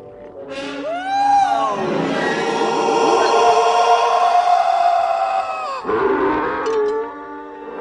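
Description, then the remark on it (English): Obi-Wan's film scream sound effect, used to scare off the Sand People: a long, eerie wavering scream, like a creature's howl, with sliding rich harmonics that swell and hold for several seconds, then break into a second shorter cry near the end. “Now, why did he feel the need to change Obi-Wan's scream to scare off the Sand People?”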